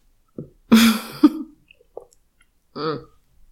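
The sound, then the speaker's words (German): A loud, harsh coughing fit after trouble swallowing, with a raspy throat-clearing burst, followed by a short pause and a softer, voiced clearing of the throat. “Entschuldigung, ich hatte gerade Probleme zu schlucken.”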